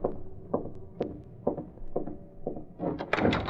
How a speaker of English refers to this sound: In a matter of minutes, Britt Reed, using a skeleton key, was opening the service door to Kane's apartment. I'll leave this door open just in case.